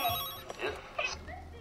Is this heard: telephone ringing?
yes